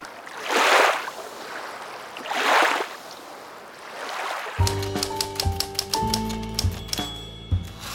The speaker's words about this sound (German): Wir haben hier nochmal für euch einen kleinen Erfrischungseimer mit richtig eiskaltem Wasser.